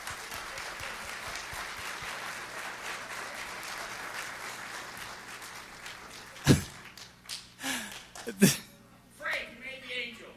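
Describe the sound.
A crowd claps in a dense, steady wash for about six seconds, then the applause thins out into a few sharp thumps and brief bits of people talking.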